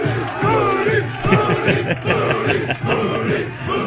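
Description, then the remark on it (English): A crowded group of football players cheering and chanting loudly together in a locker room after a win, voices overlapping in a continuous, rowdy roar with bursts of shouting throughout. “And when it came time to cheer on the person who was most responsible for the game, the players let you know who was the one who was responsible.”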